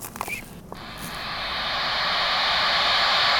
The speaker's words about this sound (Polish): To jest, proszę Państwa, szumiący miś. Nie wiem, czy to przypomina misia, ale troszeczkę na pewno tak. Taka przytulanka, która szumi.